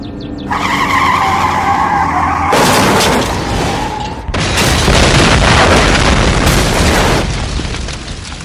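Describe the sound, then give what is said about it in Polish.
A car skids with a long, high tire squeal, then slams into something with loud crunching impacts and a second burst of crashing debris, all loud with no voices. “Zawsze rozbije się w nieoczekiwanym momencie. Jej, ty, potrzebuję serwisowania mojego auta.”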